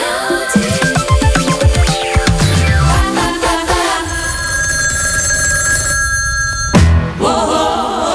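A telephone bell rings loudly as a wake-up call, a sustained metallic trill that follows a burst of clattering tones, briefly cuts off near the end, then starts ringing again.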